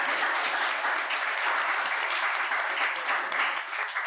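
A steady round of applause from a crowd, dense crackling claps holding at an even, fairly loud level for about four seconds with no voices cutting through.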